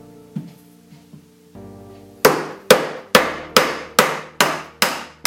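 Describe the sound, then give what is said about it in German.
A fresh round log of wood being split as the first step of carving a boat: after a few soft taps, about seven loud, evenly spaced blows ring out in a steady rhythm, each with a sharp metallic clang. No one speaks. “Zuerst müssen wir dazu das Holz spalten.”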